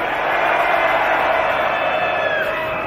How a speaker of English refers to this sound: Ruzold, are you ready for some death metal screams? I want to hear everybody screaming as loud as they can, all right? Where are your death metal screams? Come on! Come on, you can do louder than that! Come on!